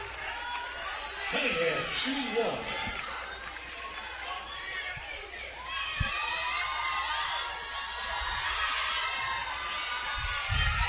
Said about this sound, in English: If you could hear the cheers on the far side